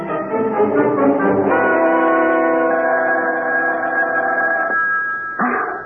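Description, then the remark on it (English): A telephone rings loudly at 3 a.m. with a bright, sustained bell tone that fills several seconds, pauses briefly, then starts again. No one speaks. “Wake up. The phone. Oh, my gosh, it's 3 a.m. Answer it”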